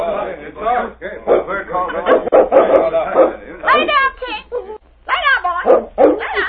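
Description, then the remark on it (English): A dog barks and yips in quick bursts for several seconds, the sounds tumbling over one another with short pauses, mixed with voice-like vocalizing. “Him talk to animals. Him talk to dogs.”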